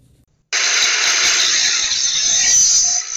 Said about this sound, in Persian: این سر و صدا در ورکشاپ‌های فعال در محبس عمومی ننگرهار است. این محبس شکل یک بازار کاری را کسب کرده و همه روزه صدها تن زندانیان در ساحات مختلف زندان سرگرم کار و فعالیت هستند.